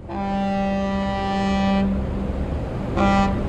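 A ferry crossing the Bosphorus in Istanbul from Asia to Europe: its deep horn blasts loudly for nearly two seconds, then sounds again in a shorter burst, over a steady low rumble of engines and water.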